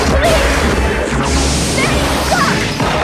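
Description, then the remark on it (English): A continuous clatter of treasures smashing and shattering one by one as a glowing trident destroys them, loud and dense, with crashes and whooshing debris layered over a low rumble throughout, no clear pauses between impacts. “His trident glows. One by one, her treasures shatter.”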